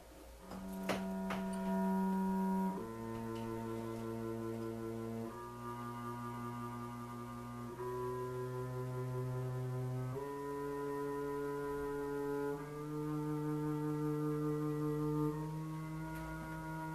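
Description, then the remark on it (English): A series of steady, buzzy pitched tones generated from the constructible figures plays alone, about seven notes each held for roughly two seconds, stepping through the scale so the first and last notes sit an octave apart. “This is all the whole series of tones you would generate from the constructible figures.”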